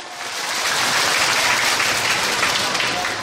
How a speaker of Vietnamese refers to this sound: Rồi, mời bạn lên. Câu chuyện thứ hai. Chúng ta cho một tràng vỗ tay.